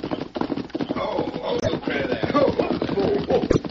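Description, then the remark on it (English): Horses ridden by Frank Mallon and Cal Smith approach a watering place with a steady, rhythmic clip-clop of hooves that grows fairly loud, continuing throughout with muffled voices mixed in underneath. “Me here, horse now. Somebody come now.”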